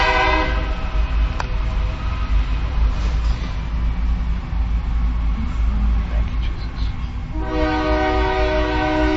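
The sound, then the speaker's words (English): A train rumbles steadily past, loud, with its horn blaring at the start and sounding again in a long blast near the end. “I think the trains are trying to make up for time.”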